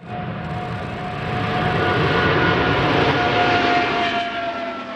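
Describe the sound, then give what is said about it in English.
A Boeing 777X twin-engine jet airliner roars past on its maiden flight, its broad engine rumble swelling to a loud, steady peak with a thin whining tone on top, then easing slightly. No voices. “Boeing completed the maiden flight on the world's largest twin-engine jetliner. It is a 777X.”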